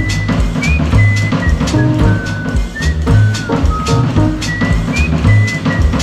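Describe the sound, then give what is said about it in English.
A simple whistled melody of short, clear notes with small upward slides floats above a busy band backing of bass and drums, fairly distinct but mixed into the music. “I heard somebody whistle.”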